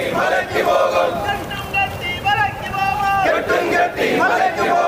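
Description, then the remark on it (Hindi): A crowd chants protest slogans during a strike over Sabarimala called by a Hindu organisation and backed by the BJP, in loud, rhythmic unison, many voices rising and falling in repeated bursts over a constant murmur of shouting. “इस बीच ये नारे भी सुनने को मिले।”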